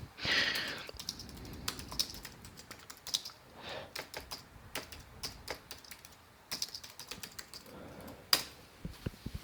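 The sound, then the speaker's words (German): Quick, irregular clacks of a computer keyboard as a password is typed, a burst of keystrokes with short pauses between, no voices present. “Wenn ich jetzt wüsste, wie mein Passwort ist. Man muss auch tippen.”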